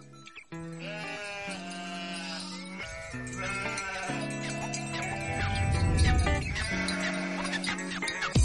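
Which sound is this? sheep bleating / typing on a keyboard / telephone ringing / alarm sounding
sheep bleating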